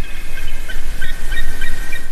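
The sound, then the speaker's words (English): A bald eagle calling: a quick run of thin, high piping chirps repeating in rapid bursts over a steady low background rumble, with no voices present. “The American, or bald eagle, has been the symbol of the United States for centuries”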